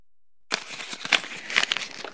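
Crisp paper crinkling and rustling as a folded paper fortune teller with film stars' names on the outside is opened out, starting after a brief silence and continuing in a dense run of small crackles with a few sharper snaps.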